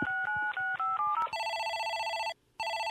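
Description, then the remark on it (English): Telephone keypad tones beep in a quick run of about five short dual-tone presses as someone dials a cold call, then a loud steady ringing tone sounds, breaks off briefly, and resumes. No one speaks. “We're hitting the phones hard, making cold calls.”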